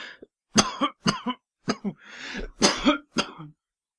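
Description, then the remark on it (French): A run of harsh coughs, about seven sharp bursts in quick succession with a raspy, throaty fit near the middle, loud and with no talking. “Son cœur se mit à battre sans qu'il pût rien y faire, et les mains pressées sur sa poitrine, il se mit à tousser.”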